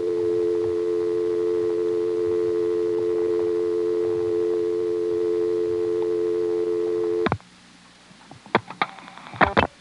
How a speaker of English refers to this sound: I'm now going to let the dial tone time out, and then I'm going to dial 6 for 670